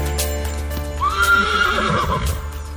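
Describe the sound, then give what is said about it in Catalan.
A horse neighs loudly, a single wavering whinny lasting about a second, over a steady low rumble with faint hoof clops in the background; one of a herd of horses wintering in a 400-hectare enclosure next to Olivella in the Garraf massif. “Són els cavalls de la Fundació Miranda que passen l'hivern en un tancat de 400 hectàrees a tocar d'Olivella després de recórrer entre 30 i 40 quilòmetres al dia durant una setmana per baixar de l'Alt Berguedà al massís del Garraf.”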